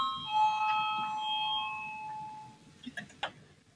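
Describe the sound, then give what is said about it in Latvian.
A chairman's bell rings to call a vote on the legal bureau's first proposal, with a bright, sustained metallic tone that slowly fades over about two seconds, followed by a few soft clicks and taps. “Lūdzu, zvanu, balsosim par pirmo juridiskā biroja priekšlikumu.”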